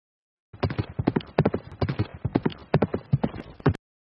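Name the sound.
horse hooves clip-clopping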